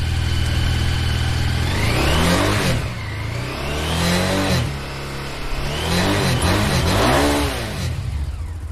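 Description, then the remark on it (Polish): A Honda XRV 750 Africa Twin motorcycle engine revs loudly, climbing and falling in three or four throttle bursts over a steady rumbling idle, with no talking. “Honda XRV 750. Będzie jako pokaz motocykla, który wszędzie wjedzie i wszędzie wyjedzie, a także będziemy na niej dzieci wozić.”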